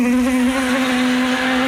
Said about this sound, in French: Et là, t'as toutes les guêpes du quartier qui déboulent.